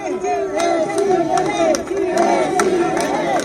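A loud crowd shouts together without pause, some shouting "presidente", many voices rising and falling in a ragged, chant-like swell with occasional sharp accents throughout.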